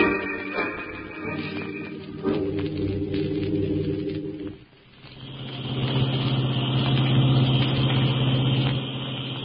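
A car engine hums steadily while driving around a mountain, briefly dropping off before surging back louder with a rough, sustained drone and road rumble, with no voices present.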